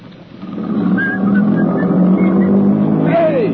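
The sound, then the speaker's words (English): A car engine surges up to a loud, steady low rumble as the car drives off, with a whining tone sliding downward in pitch near the end. “Come back here! Come back with that car!”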